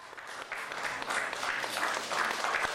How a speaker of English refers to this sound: There were gasps and applause from fellow reporters as Babchenko came out during a press conference in which Ukrainian authorities announced they'd staged his death to save his life.